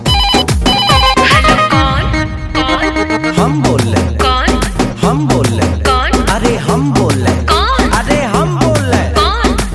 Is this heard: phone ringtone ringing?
yes